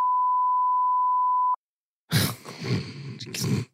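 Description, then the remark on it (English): A single steady, pure censor bleep tone sounds clearly for about a second and a half, cuts off, and after a short silence gives way to loud, rough vocal noise. “So I think I'm probably gonna have to beep that one.”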